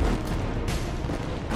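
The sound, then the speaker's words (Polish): A loud, roaring explosion of a speeding train blown up in a field for a film shoot, with heavy low rumble, punctuated by several sharp blasts in quick succession, dense with no voices. “Pociąg na ekranie wybucha z kilku ujęć naraz.”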